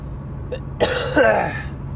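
A single harsh throat clearing with a short cough-like burst, gravelly and abrupt, over a low steady hum with no one speaking.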